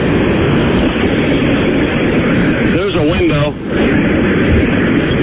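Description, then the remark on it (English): A combine harvester engine roars steadily and loudly with its door opened while it heads back to the barn, a dense, unbroken mechanical rumble filling the whole clip, with a man's voice briefly speaking over it partway through. “Can you open the door so we can hear your combine?”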